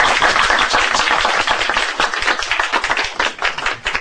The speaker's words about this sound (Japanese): 歓迎の拍手をしたいと思います。